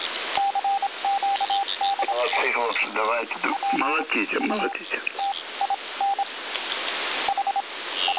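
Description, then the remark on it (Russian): Morse-like telegraph beeps sent by Ukrainian telegraph operators, on a single steady mid-high pitch, keyed in short and longer bursts over a thin radio-band hiss, with a man speaking over the tones partway through. “Можно работать телеграфом с клавиатуры. Украинские телеграфисты. Что-то передают.”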